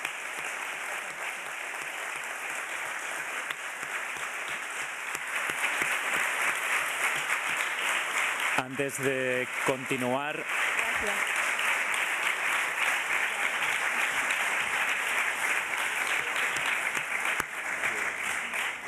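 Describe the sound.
Sustained applause from a large audience at a film press conference, given for Penélope, steady and dense throughout, briefly overlapped by a single voice speaking near the middle before the clapping continues.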